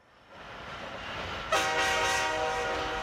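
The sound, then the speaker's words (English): A party bus rumbles and builds, then a loud, sustained horn blares about halfway through and keeps sounding over the engine noise until the end, with no talking. “This is how I imagined it sounding, a party bus.”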